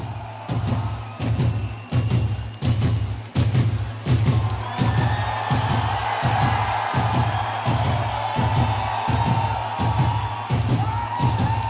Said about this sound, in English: Two drummers in sync for the opening thumpity thump thump thump thump